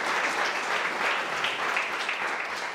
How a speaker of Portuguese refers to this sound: Você pode aplaudir bem forte a este Jesus maravilhoso?